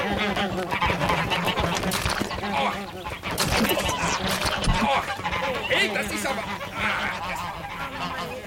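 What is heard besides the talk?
ducks quacking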